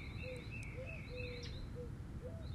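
birds chirping outdoors

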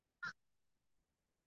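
birds calling

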